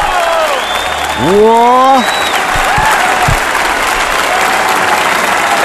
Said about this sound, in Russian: Аплодируют. кончили аплодировать.